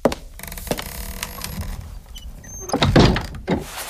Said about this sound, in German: Aber schließ die Tür hinter dir.